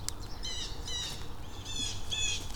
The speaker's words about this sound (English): And then, I just spooked some ducks. Some birds went crazy over there, and then some ducks just took off. I think they were mallards. They were about 12 meters up the creek in the water.